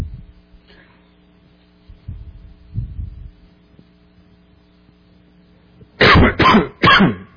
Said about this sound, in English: You'll have to excuse me. I've been battling a cold, and it's just if I cough throughout the sermon, and my voice is still not normal.